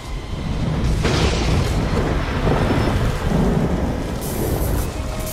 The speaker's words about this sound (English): And Storm has the power to control weather, so she can send down lightning